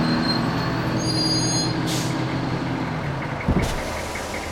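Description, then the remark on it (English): An oncoming snowplow with headlights on rumbles loudly while its brakes squeal in high, whining tones, with two short bursts of air-brake hiss as it slows to a stop. “I wave my arms furiously at the headlights of the oncoming snowplow.”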